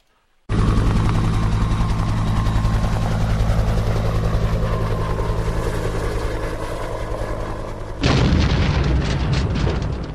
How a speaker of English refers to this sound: A rescue helicopter has crashed. This is again going back to the looks like a Coast Guard type.